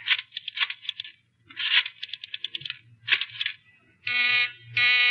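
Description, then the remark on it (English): Bursts of rattling, clicking clatter give way to a telephone busy signal heard when calling a phone booth: two loud, steady buzzing tones separated by a short break, with no one speaking. “I called the booth and the line was busy.”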